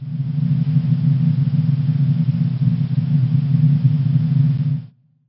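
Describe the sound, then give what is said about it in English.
Steady white noise with a heavy low rumble under a softer hiss, holding an even, unchanging level for about five seconds before cutting off abruptly. “It's white noise.”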